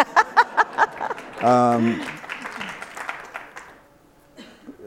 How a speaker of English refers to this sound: So now you can clap.